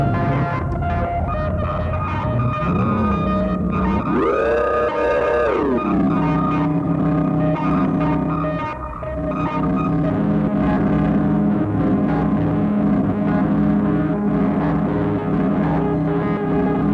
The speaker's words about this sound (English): Sorry, that high-frequency thing was from the FSU. Is there, like, pitch-shifting distortion?